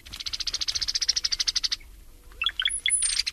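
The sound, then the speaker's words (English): Cowbird calls, clear: a fast rattling chatter of about two dozen evenly spaced notes, a short pause, then liquid gurgling notes and a thin, high whistle. “And along came the cowbirds.”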